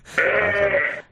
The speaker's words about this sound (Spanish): Estamos echando de comer a las ovejas.